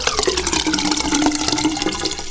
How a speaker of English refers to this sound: Water goes down the drain.